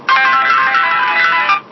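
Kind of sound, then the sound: signal or alarm, mobile phone ringtone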